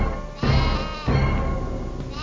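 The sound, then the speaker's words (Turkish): Two quarreling goats bleat twice in close succession, loud, each cry a wavering, nasal call that trails off, with no talking alongside. “Bu anda keçiler başladılar uyuzlaşmaya.”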